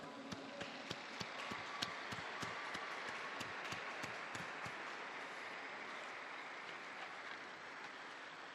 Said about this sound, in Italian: Un applauso ai nuovi beati.